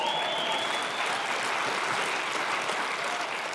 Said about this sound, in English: There's no question. You can applaud that. That's good.